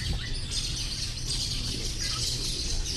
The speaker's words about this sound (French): Il y a beaucoup d'oiseaux ici. On les voit voler, plein d'espèces.